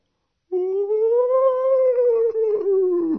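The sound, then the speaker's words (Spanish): A strange cry from a sheep that does not bleat like the others: one long sustained wail that rises slowly in pitch and then sags, loud and steady for about three seconds after a short silence, sounding more like a howl than a bleat. “Pero lo que más asombró a Mastropiero fue que en medio del rebaño había una oveja que no balaba como las demás y que cada vez que lo veía corría hacia él profiriendo un extraño.”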